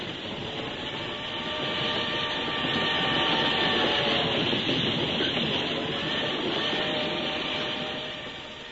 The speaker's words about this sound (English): It'd almost be worth $1,200 to get a good night's sleep on one of these trains.